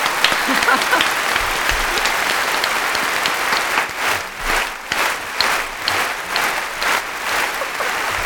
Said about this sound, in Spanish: Te quiero despedir con un aplauso de estos gordos que tenemos ahí en el ordenador, que es bien gordo. ¡Bravo! ¡Bravo!